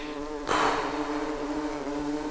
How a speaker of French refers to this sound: Il se penche pour rattraper une fleur quand il entend dans son oreille une abeille. Apeuré, il essaye d'avancer le plus calmement possible pour éviter le nid d'abeilles.